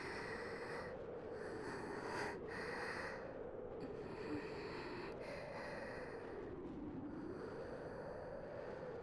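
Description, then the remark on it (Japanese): Heavy, excited, sweet breathing of a young woman awaiting an answer to her confession of love, a steady rush of air swelling and easing in slow waves with sharper snort-like inhales, continuing alone with no talking for several seconds. “興奮した甘い吐息があなたの答えを待っている。”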